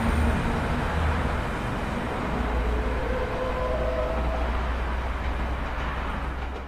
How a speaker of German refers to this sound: Und jetzt sage ich mal, was ich denke, was es ist. Ich glaube, da hat ein LKW gebremst.